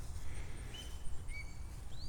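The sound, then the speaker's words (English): Faint neighborhood birds flying around call with a few short, thin chirps and whistles, scattered irregularly over a low outdoor rumble. No one speaks. “These are the birds in the neighborhood. They're flying around and doing squawky bird stuff”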